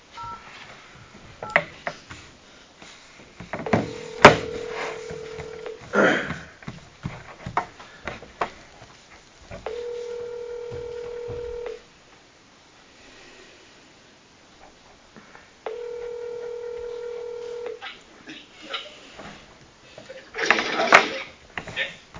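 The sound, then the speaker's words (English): A telephone being dialed: quick keypad beeps and clicks, then steady tones repeating at an even interval, like a line ringing, clear with little else around. “But I will call him. Try to get on the phone here.”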